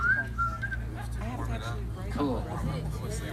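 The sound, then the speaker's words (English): A few bright, thin whistled notes ring out near the start as a whistle solo within a sung song, short and melodic, then fade as voices and a steady low hum carry on underneath. “And he does a whistle solo in the middle.”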